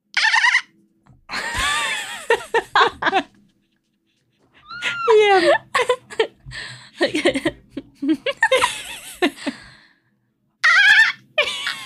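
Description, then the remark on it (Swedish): A person imitates a dolphin with a series of high, squeaky whistles and chirps that rise and fall in pitch, interrupted by short pauses and a little speech. “Okej, okay, delfin. Delfin.”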